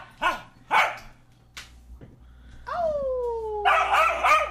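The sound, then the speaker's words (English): An Australian cattle dog barks: two sharp, high-pitched barks, then a long falling whine that breaks into a harsh, strained shriek-like bark. No one speaks. “There's another Australian buddies. Cattle dog.”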